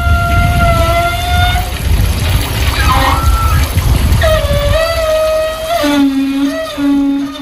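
Water rushes steadily from an outdoor beach shower while its pipes let out loud, whining squeals that hold, bend and shift pitch several times. No one speaks.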